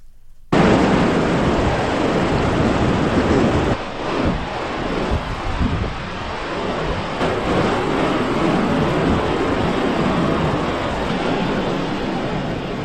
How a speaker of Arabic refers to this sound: في الباثيتي، هذه المنطقة التي تعتبر محمية طبيعية، لنستمع إلى صوت هذا النهر.